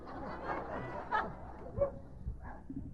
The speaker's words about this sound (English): Now, I'm going to feed the dog the meat. But I want to hear him bark.